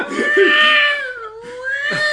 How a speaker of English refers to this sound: there was a cat screaming for about an hour and a half